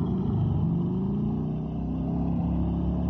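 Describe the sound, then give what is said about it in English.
A motorcycle ridden by a girl drones steadily and loudly for a few seconds, its low throaty rumble holding an even pitch with a slight rise, and no voices over it. “Girl on that motorcycle.”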